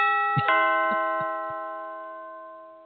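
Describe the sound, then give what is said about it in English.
A doorbell chime sounds alone, a quick double strike blooming into a bright, sustained ringing tone that gradually fades over a few seconds, with several soft low thumps early on. “Let's do a doorbell.”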